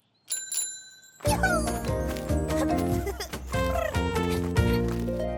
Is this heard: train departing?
no